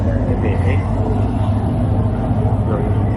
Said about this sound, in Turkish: Normalde çok daha sessiz olur. Denizin sessizliği daha çok yansıt ama bu vapur biraz fazla gürültülü.